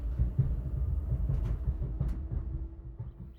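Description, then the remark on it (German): A steady low rumble of a train rolling along the rails somewhere between Germany and the Czech Republic, past hop fields and passing landscape, continuous, with a few faint clicks and a soft tonal hum running underneath; no one speaks. “Sondern genau hier in diesem Zug. Zwischen Zuggeräuschen, Hopfenfeldern und vorbeiziehender Landschaft.”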